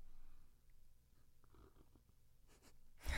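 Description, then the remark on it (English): A faint slurp of beer: soft, brief wet mouth and sipping noises in near silence, ending in a short, louder breathy rush, with no talking. “Oh, yeah, I heard that one. A little bit of a slurp.”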